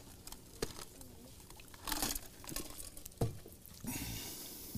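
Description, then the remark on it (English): Soft rustling and crinkling of thin Bible pages being flipped to find a passage, several quick papery bursts followed by a longer sweeping swish, fairly quiet, with no one talking. “Turn over to John 18, 28. It says, I'll give you a second to turn there.”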